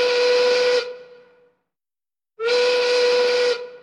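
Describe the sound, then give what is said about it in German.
A factory siren sounds its evening call: two long, steady blasts with a shrill, hissing whistle tone, separated by a brief silence as the first call fades out. Loud, with no voices. “Genauso ratlos wie beim Abendruf der Fabriksirene wären wir heute wahrscheinlich auch, wenn wir die Signale eines Nachtwächters hören würden.”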